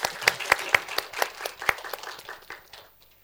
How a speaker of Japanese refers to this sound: 素晴らしい主の皆をもう一度共に拍手を持って褒めたたえましょう。ハレルヤ。